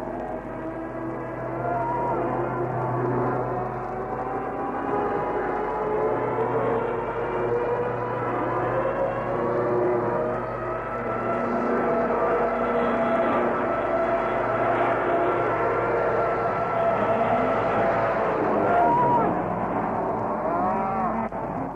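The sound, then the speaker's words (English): A steady, loud drone of aeroplane engines runs for the whole stretch, its pitch wavering slightly, with mooing cattle breaking from the grass in a stampede mixed into the din and no talking. “I'm deafened by those planes.”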